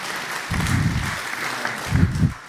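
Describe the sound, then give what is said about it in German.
An audience claps steadily for itself after staying to the end of a talk, a dense patter of many hands that swells in a couple of waves, the second briefly louder before it tapers off. “Ja, Applaus für euch!”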